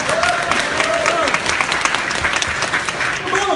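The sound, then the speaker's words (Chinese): Steady, dense applause from a crowd, a continuous crackle of many hands clapping at fairly high volume for a few seconds, with faint voices showing through now and then. “你听听掌声，听听掌声。”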